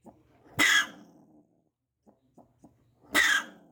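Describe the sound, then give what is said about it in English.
A grumpy animal in a cat carrier at Sandy Pines Wildlife Center in Napanee, looking like a cross between a squirrel and a raccoon and not native to Canada, lets out two loud, harsh, breathy bursts a few seconds apart, like snorting huffs, with faint low grumbling and small clicks in between. “In a cat carrier, an animal that looks like a cross between a squirrel and a raccoon, but unlike anything native to Canada, looks grumpy.”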